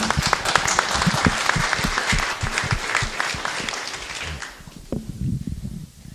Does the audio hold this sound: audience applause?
yes